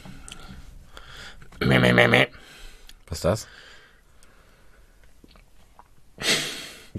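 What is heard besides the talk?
throat clearing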